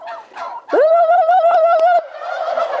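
Turkeys gobbling up close, one loud, rapid warbling gobble lasting over a second, with shorter gobbles and clucking chatter from other birds before and after it.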